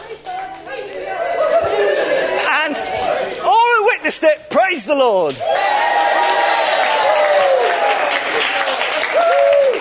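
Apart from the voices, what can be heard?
audience clapping and cheering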